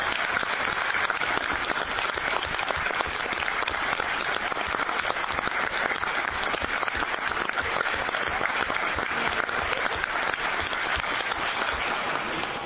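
Sustained audience applause for the district's senator Boone and representative Johnson at a testimony meeting in Oregon, a dense, steady wash of many hands clapping at an even loudness for several seconds with no voices standing out.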